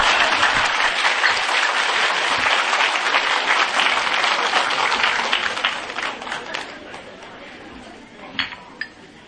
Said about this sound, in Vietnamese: Quý vị cho mấy ông tràng pháo tay.